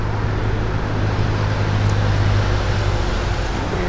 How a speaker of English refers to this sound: Listen to that loud-ass traffic.